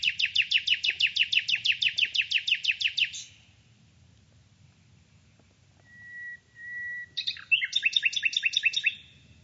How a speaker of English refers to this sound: And he samples birds and nightingales and cuckoos